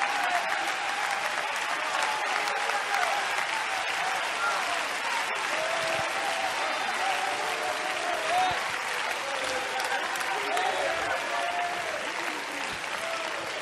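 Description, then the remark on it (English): A crowd claps its hands when called to clap as if they could be healed and delivered now, clapping steadily for over ten seconds, a dense, continuous wash of many hands with a faint murmur of voices underneath. “I want you to clap your hands like you could get healed now.”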